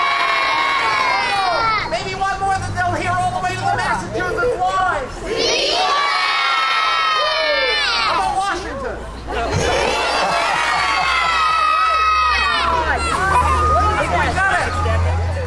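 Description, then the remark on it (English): A large crowd of children at the bottom of a hill, in sunshine, shouts and cheers continuously in the Pollyanna Glad Day wave and cheer, led by a photographer on a tall ladder, with high, excited voices rising and falling in loud overlapping waves for the whole stretch. “climbs a tall ladder and conducts the great Pollyanna Glad Day wave and cheer.”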